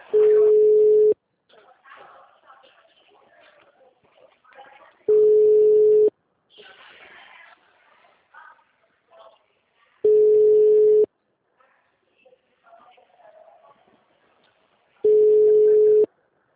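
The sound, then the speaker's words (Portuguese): A phone's ringback tone sounds while calling a cellphone: four steady, mid-pitched one-second tones spaced about five seconds apart, with faint murmuring voices in the quiet gaps between them. “tô dando toque no telefone”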